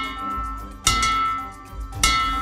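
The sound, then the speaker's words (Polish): A hand-rung bell, set up in Poland by the Pokonaj Raka, Wygraj Życie foundation for patients to ring after finishing stages of treatment, is struck twice, about a second apart, each clang loud, with bright metallic overtones that keep ringing and overlap between strikes. No one speaks. “Każdy z etapów jest takim zwycięstwem, ogromną wygraną dla pacjenta, więc można bić dzwonem nawet w międzyczasie.”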